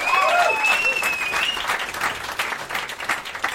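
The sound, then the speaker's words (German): A burst of audience applause, dense rapid clapping that is loud at first and slowly thins, with a few whistle-like tones rising over it near the start. “Kleiner Applaus für den Herrn für den Redaktionsplan.”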